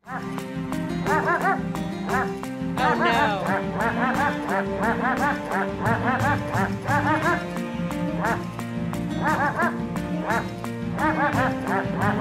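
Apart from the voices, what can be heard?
dog barking sound effect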